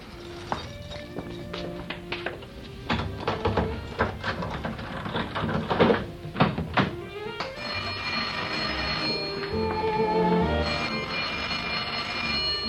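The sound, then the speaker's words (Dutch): A flat door being unlocked with a key and opened: a run of sharp, irregular clicks and clunks from the lock and handle, then a steady wash of sound continuing afterward, with no talking. “Maak de deur open”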